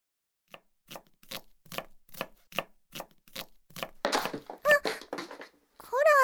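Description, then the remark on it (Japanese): A kitchen knife chops food on a cutting board while a meal is being cooked, in a steady rhythm of about ten crisp strokes, then gives way to busier clatter with brief high-pitched vocal squeaks near the end. “せっかくお姉ちゃんのために料理してるのに邪魔しないで。それに今包丁持ってるんだから危ないでしょ。”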